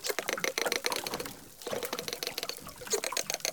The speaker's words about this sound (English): And these animals are in sync at 600 beats a minute. The researchers sent us the dolphin sounds that they recorded. Here is one dolphin singing alone. And here are the dolphins singing together.